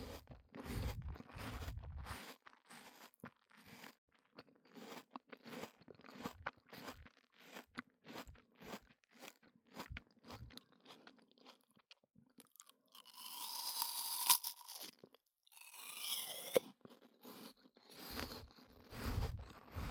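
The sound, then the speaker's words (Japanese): Someone bites into a crisp apple and chews steadily, producing loud, wet crunches in a rapid irregular rhythm, with a few brighter, sharper crackling bursts partway through. No one speaks. “こちらのリンゴはですね、リップノイズを取るためによく現場で使われております。”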